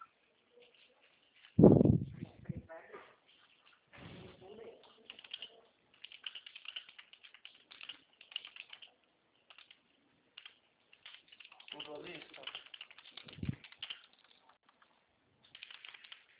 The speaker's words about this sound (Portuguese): Agora está digitando aqui mesmo. Tá. Digita a senha.